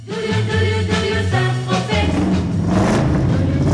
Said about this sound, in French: a pu passer le voir dans un garage de Grigny, près de Lyon, où il se refaisait une beauté et son moteur vrombit toujours.